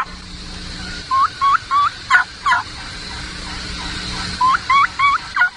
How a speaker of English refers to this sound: Listen to the rhythm and the cadence of the Jake, and there's a Jake gobble.